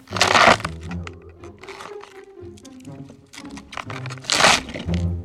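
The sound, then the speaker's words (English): Loud, wet snapping and crunching of a celery stalk being twisted and broken as a foley effect for the bones of a hand crushed by a mallet, with two sharp bursts at the start and end and gritty crackling between them. “To reveal what I'm using is just a stalk of celery.”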